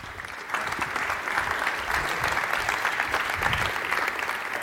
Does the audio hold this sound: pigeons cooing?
no